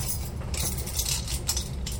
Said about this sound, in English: Keys. Yeah, sort of a key ring. We're not talking Schneider from One Day at a Time, but medium size.